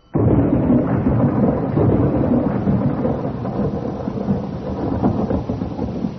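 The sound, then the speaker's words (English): A steady roar of heavy rain with deep, rolling thunder rumbling underneath, loud and continuous throughout, with no voices. “Like vultures on a dying lamb, we came down in rain and darkness on a coffin in the lonely rustic graveyard of Glencourt.”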